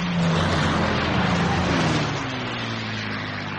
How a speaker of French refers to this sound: Un millier d'avions parachutent 850 tonnes de munitions et de vivres sur la ville de Bastogne.